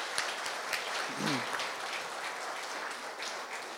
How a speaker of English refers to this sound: Let's honor them. Let's give them a round of applause. Let's cheer them on.